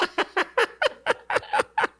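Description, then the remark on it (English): A rapid series of about nine sharp, evenly spaced chicken clucks, loud, with a slightly electronic, recorded quality and no talking, played by pressing a soundboard button. “Oh, yeah, I do have the chicken sound.”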